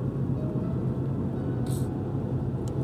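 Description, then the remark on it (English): Heavy trucks hauling mounds of trash rumble past one after another on the entrance road to the Greenbrier in Greenbrier County, West Virginia. The engines and road noise make a steady, loud low drone, with a brief hiss of air partway through and no voices. “Truck after truck coming out, just hauling mounds of trash.”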